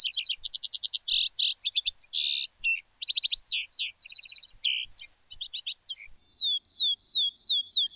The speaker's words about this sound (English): on the farm in a field used for raising truck crops from which I could hear three or four males singing throughout the nesting season. Look for a streaked sparrow with white outer tail feathers, chestnut-brown shoulders, and a sweet, lilting voice.